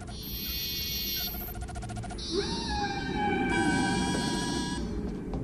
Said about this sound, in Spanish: Spock, como sospechaba, las señales de la sonda son los sonidos emitidos por las ballenas. Las ballenas. En concreto, por las ballenas grises.